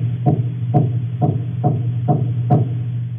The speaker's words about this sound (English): And we've got a nice little recording here of the little baby grey snapper larva making their sound. So this is a knock, as you call it.